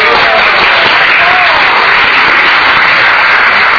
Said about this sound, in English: So I'd like to give her a big round of applause.